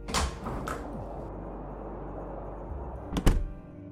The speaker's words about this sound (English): But we were too afraid to leave our hiding place, even when we heard the front door open and close again.